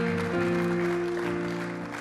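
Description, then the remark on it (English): A church audience applauds for God during a sermon, a steady, continuous wash of clapping, while sustained low musical tones hum underneath throughout the two seconds. “Give God a hand.”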